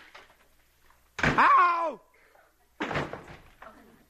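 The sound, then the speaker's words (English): An apartment front door bangs open with a loud thump, a voice lets out a falling yelp, and another heavy thud follows a second later as someone slips on a throw rug in the hall and falls to the floor. “Okay, I'll open the front door and I'll come in again.”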